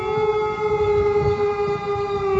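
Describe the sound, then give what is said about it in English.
A wolf howls in one long, unbroken note that holds a steady, slightly falling pitch with rich overtones, loud and sustained over low rumbling noise, with no one speaking. “Is that a wolf? It sounds like a wolf, but yet there are no wolves here now.”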